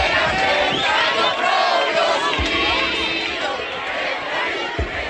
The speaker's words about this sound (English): They chanted Patria y Vida, homeland and life, a defiant twist on the revolutionary slogan, homeland or death.